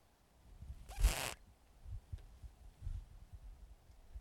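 A single quick zipper pull, a short bright rasp lasting about a third of a second, close and fairly loud against a low rumbling background with soft thumps.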